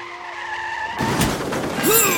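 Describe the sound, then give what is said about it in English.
A car's tires squeal in a steady high-pitched skid for about a second, then a loud crunching crash bursts in, followed by a noisy, rattling aftermath. No one speaks. “I crashed into you.”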